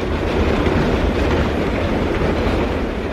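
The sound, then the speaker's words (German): A London Underground (Tube) train, with round carriages fitting a round tube tunnel, roars steadily through the tunnel, a dense, continuous rumble heavy in the low end with a faint rhythmic clatter of wheels, loud and unbroken with no voices. “Auch als Erwachsener ist Martin noch fasziniert von der Tube.”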